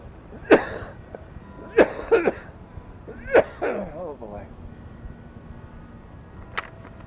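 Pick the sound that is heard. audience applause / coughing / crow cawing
coughing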